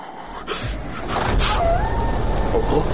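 A tractor engine rumbles steadily, swelling in after a brief quiet start and holding a constant low drone, with a thin whining tone drifting above it.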